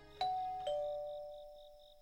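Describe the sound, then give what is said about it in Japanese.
A classic two-tone doorbell chime rings once at an apartment door in an old two-story apartment building, after 8 pm: a bright higher ding followed by a lower dong, each tone lingering and slowly fading. “外階段を上り、部屋番号と表札を確かめ、呼び鈴を鳴らす。”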